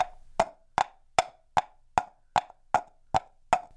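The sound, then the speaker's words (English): Two halves of a dried coconut shell, its meat scraped out, played as a percussion instrument and struck against each other in a steady clip-clop rhythm, like horses: about nine sharp woody clacks at even intervals, resonant and bright, with no talking. “I know it sounds like horses, but it's a coconut shell, where I scraped out the coconut meat, dried it out, and cut it in half. And I am striking it against itself.”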